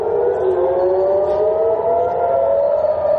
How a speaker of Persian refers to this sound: دود و آتش و صداهای پیاپی انفجار و آژیر خطر در منطقه مرزی میان اسرائیل و لبنان.